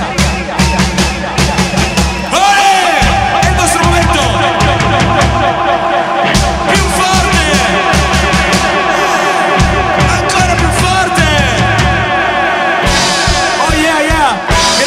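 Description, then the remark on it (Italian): A big concert crowd loudly shouts and chants olé in unison, stadium-style, continuous for about fifteen seconds after a drum break, with the band's drums and music pounding underneath. “Ma soprattutto questa sera c'eravate voi e vi voglio sentire urlare ole come fossimo allo stadio dopo questo stacco di batteria.”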